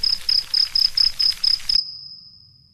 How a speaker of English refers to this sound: And the first thing that happens is that all the crickets come.